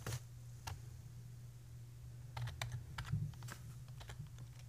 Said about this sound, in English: Yeah. There you go. Nice keyboard sound.